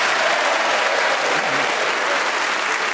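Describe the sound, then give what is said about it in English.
Sustained applause from the audience of the radio show Just a Minute at the Radio Theatre in Broadcasting House, welcoming panelists Paul Merton, Tony Hawks, Sue Perkins and Graham Norton; a dense, steady wash of clapping that stays loud and even throughout, with no voices breaking through. “Will you please welcome all four of them?”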